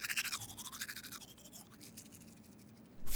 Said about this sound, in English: I brush my teeth with a toothbrush and toothpaste.